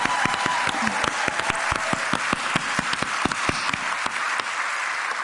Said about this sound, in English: Will the newly elected Executive Board members please stand so that we can continue clapping for you? Come on, we want to give you recognition.